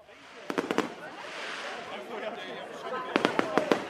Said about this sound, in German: Hamburg Ende 2018. Im Wasser der Binnenalster spiegeln sich in der Silvesternacht die explodierenden Feuerwerksraketen.